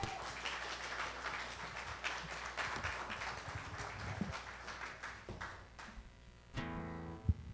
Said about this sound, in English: the worship team a round of applause.